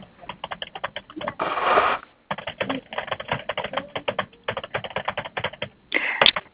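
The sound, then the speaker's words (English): Rapid computer keyboard typing in irregular bursts of clicking keystrokes, heard over a caller's unmuted phone line during a conference call, with a brief louder rustle midway and a short pause before the typing resumes. “One of my speakers has got is unmuted and typing a lot.”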